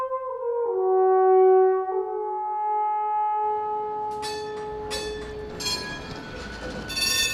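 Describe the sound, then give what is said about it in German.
A tram in Zürich, running along the Limmat river toward Lake Zurich, gives a few sustained ringing tones, then rolls along with a steady rumble of wheels on rails and occasional sharp clacks, with no talking. “Die Straßenbahn fährt entlang des Flüsschens Limmat in Richtung Zürichsee.”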